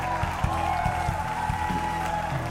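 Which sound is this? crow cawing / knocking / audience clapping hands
audience clapping hands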